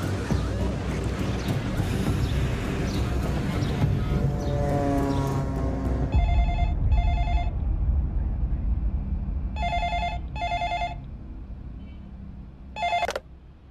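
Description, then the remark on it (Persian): A telephone rings in paired electronic trills, two double bursts spaced a few seconds apart, clear over a steady low rumble, after a noisy stretch of engine-like drone. “به بچه ها بگوی ارتباط تلفنی همین الان با اتاق یاشو برقرار کنه.”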